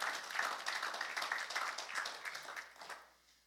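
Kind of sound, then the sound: crowd, audience clapping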